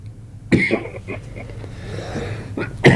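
Several harsh coughs, a strong burst followed by a few smaller ones, a pause, then two more coughs near the end, over a low steady background hum.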